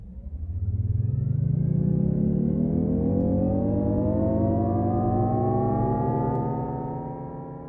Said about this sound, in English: That sound, released last year, was created for Jaguar's electric I-PACE vehicle.